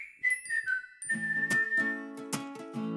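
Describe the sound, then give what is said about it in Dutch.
A short whistled tune with a few sliding, descending notes, then a held whistle over a chiming, bell-like musical backing, clear with no talking. “Ga ik even een fluitje doen, hè?”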